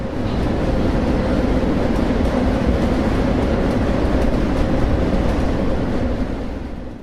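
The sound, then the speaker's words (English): A loud, continuous rumble and rattle of a freight train rolling over tracks, with dense low-end roar and clattering metallic texture that stays steady for the full length, no voices. “Most train riders have been pulled off at some point, and it's extremely uncomfortable. It's deafening.”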